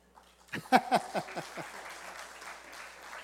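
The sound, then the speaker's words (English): A brief burst of applause from a small audience: several sharp, quick claps that swell at first, then thin into a soft, scattered patter as it fades. No one speaks. “and so we let him do what he does, and then we give him what he wants, which is applaud, which, by the way, that doesn't happen very much.”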